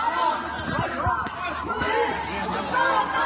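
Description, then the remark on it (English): A crowd of protesters in Lebanon, gathered outside the home of the Minister of the Interior demanding justice, shouting that he is a terrorist; many raised voices overlap into a dense, steady roar that stays loud throughout, with occasional sharper cries rising above the mass of chatter. “In this video, they are gathered outside the home of the Minister of the Interior, shouting that he is a terrorist.”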